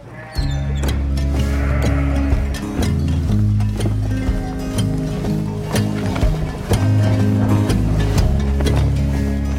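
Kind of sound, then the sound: animal, flock of sheep bleating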